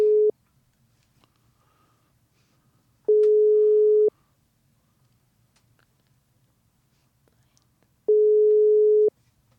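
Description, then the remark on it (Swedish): A telephone ringback tone heard while a call is being placed to Thomas Salme: a steady single-pitch tone lasting about a second, repeating after long pauses. Three tones, the first cut short, over a faint low hum. “Om jag ringer upp Thomas, Salme, vad tror ni om det?”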